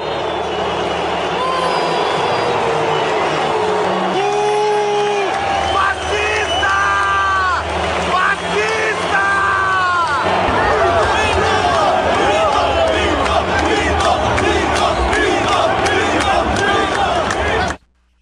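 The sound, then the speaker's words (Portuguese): A huge stadium crowd at a final in Brazil boos and applauds the president at once, a dense, loud roar that holds steady for about eighteen seconds, with rising shouts and whistles breaking through midway. “Vamos ouvir as vaias e os aplausos?”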